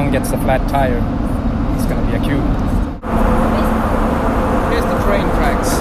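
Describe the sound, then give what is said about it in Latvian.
Loud, continuous rumble of heavy vehicle engines in an underground mine, with heavy traffic of big machines and large tractors. A thick low drone with a hissing wash on top fills the space, briefly dipping midway, while a voice talks over it. “Te ir ļoti intensīva satiksme, lielas mašīnas, lielie traktori, kādam pārplīst riepa, rēķinies arī ar lielu sastrēgumu.”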